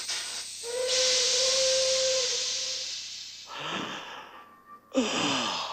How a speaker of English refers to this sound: In a train yard, smoke rises from a locomotive as steam puffs from its engine.